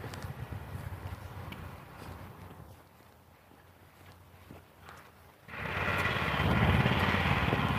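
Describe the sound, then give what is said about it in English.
Heavy construction machinery rumbles and clatters steadily, then abruptly surges into a much louder, harsh grinding roar for the final few seconds. No one speaks. “That's loud. Somebody's working on maybe replacing a driveway or something over there.”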